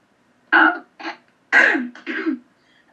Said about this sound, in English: Cough here for a minute.